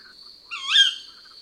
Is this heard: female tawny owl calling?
yes